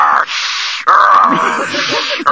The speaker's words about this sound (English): Yeah, I'm sure it sounded scary, caller. Some of those sump pumps are a bit noisy. I think if you take a look in your crawl space, you'll find the ground is dry, your pump hard at work keeping the water at bay.